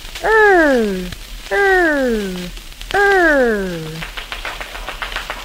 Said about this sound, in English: Now, boys and girls, let's help the mouse hear the fire engine, shall we? We'll do the clapping. Now, when I say you clap your hands. Ready?